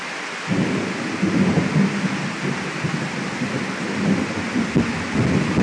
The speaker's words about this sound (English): Hear that? We've had some thunder and lightning here that you would not believe. It has just shook the whole house here.